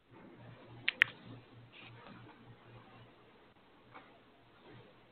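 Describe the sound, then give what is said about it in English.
Two quick, sharp clicks of keys being pressed on a computer keyboard used with a Mac while trying to take a screenshot, followed by a few softer, scattered taps over a low, steady electrical hum. “And I think my keyboard doesn't play nicely with the Mac, and so I'm constantly having to adjust.”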